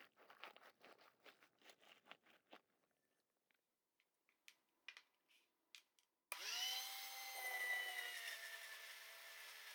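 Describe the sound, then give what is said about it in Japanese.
Crisp clicking and crunching taps, then a drill starts up for a drill modification surgery and whirs loudly and steadily through to the end, its pitch rising briefly as the motor spins up. “ドリル改造手術。”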